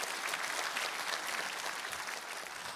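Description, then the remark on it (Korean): A church audience applauds steadily as encouragement for the NewGen preschool department teachers, a dense wash of many hands clapping at an even volume for about three seconds, with no voices over it. “우리 뉴젠 미취학부 교사님들 위해서 한번 힘찬 격려의 박수 부탁합니다.”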